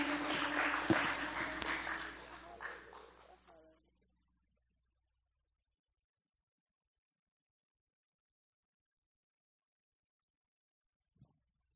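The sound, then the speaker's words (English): An audience claps their hands in praise to Jesus, a dense, loud burst of applause lasting about four seconds before fading out, followed by silence and one faint knock near the end. “Could we just give him a hand clap of praise?”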